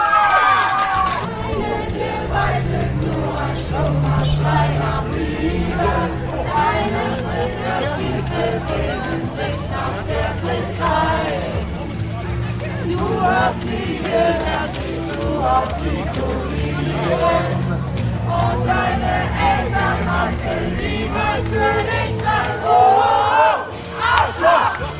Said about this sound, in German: Wir werden hoffentlich alle zusammen jetzt ein Lied singen. Eins, was ihr alle kennt, was genau dafür steht.